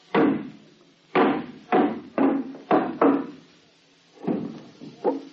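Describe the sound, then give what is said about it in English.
A hammer knocks against a wooden box to open its false bottom in about eight loud, sharp blows, uneven in rhythm with short pauses between, each thud dying away quickly. No voices are heard. “Stevens, you still got that hammer?”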